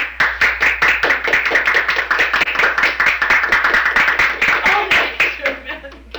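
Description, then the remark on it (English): A crowd claps steadily and briskly, the dense applause holding strong for several seconds before tapering off near the end, with a few voices and chuckles mixed in. “Can we applaud?”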